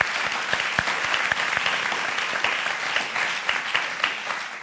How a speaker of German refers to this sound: Applaus für Dirk Stermann. Danke.